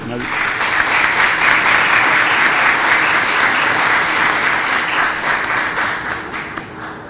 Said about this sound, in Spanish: Un aplauso para